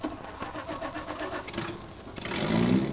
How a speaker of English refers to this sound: Come along. That is, if I can get the car started. Sometimes this thing sticks.